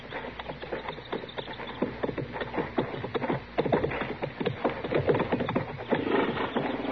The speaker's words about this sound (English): All right, Chester, you can bring the horses out now.